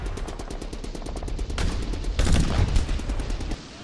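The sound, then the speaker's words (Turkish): Rapid machine gun fire rattles in a steady stream of sharp, evenly spaced bursts, swelling into a louder, denser barrage midway before easing off at the end, as soldiers charge 300 metres toward Anzac trenches on a pitch-black night at 3:30. “Ve makine tüfek ateşi altında tereddütsüzce ileri atıldılar.”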